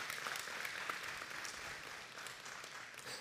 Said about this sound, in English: Yeah, you can clap for her. Please do.